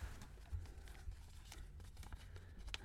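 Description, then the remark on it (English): Soft papery rustles and crisp little crinkles come in short bursts as a sheet of paper is creased and folded into a paper plane, with a few sharper snaps among quieter handling noise. “There's your paper. I've gone for like a Concorde.”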